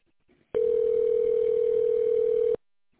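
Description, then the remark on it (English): A single steady electronic telephone ring tone sounds for about two seconds, loud over the line, then cuts off abruptly, leaving quiet with no answer. “No one's picking up the phone now.”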